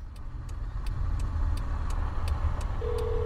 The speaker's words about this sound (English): His car is here.